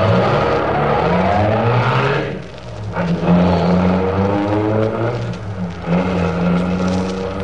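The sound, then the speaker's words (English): A loud car engine roars steadily, its droning tone dipping briefly before revving up again as the driver steps on the gas and the getaway car accelerates, continuous with no voices. “Shut your mouth and step on the gas. Step on it, I said.”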